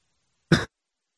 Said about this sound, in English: I just completely coughed into the microphone, and that's just so inappropriate. I was like, what was that noise?